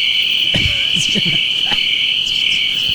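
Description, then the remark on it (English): Crickets chirp in a steady, high-pitched drone that runs unbroken through the whole stretch, with a few faint low thumps and murmurs underneath. “You woke up the crickets again.”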